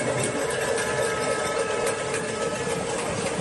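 A pots-and-pans banging protest (cacerolada) by residents in various parts of the city of Valencia, leaning out of the windows of their homes during rain in the afternoon, protesting the administrations' handling of the dana: a dense, unbroken wash of rapid metallic clattering from many sources at once, holding a steady loud level throughout, with no clear talking.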